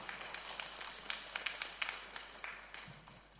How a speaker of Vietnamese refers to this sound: Toàn thể hội chúng chúng ta hãy dâng cao một tràng pháo tay để chào đón sư phụ.